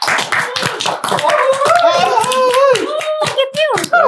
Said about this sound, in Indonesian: Tepuk tangan dulu dong.